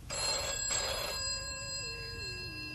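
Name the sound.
telephone bell ringing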